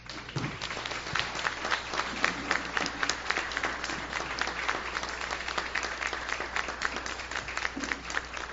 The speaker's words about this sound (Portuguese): E nós, vereadores, batemos palmas a essa comunidade.